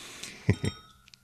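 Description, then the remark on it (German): Two quick glass clinks as whiskey is poured into another person's glass during a whiskey tasting, the second a beat after the first, each leaving a thin, high ringing tone that fades out, followed by a couple of faint light ticks. No one speaks. “Ich muss dir mal noch einen Schluck geben, warte mal, das ist sonst unfair.”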